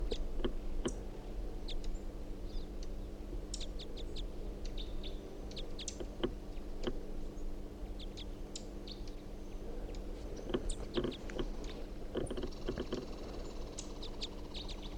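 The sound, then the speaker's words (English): Female bird calls: scattered, repeated short high-pitched chirps and tweets come in irregular bursts over a steady low hum, with no talking. “In fact, they both may be females. This is the top one of the birds.”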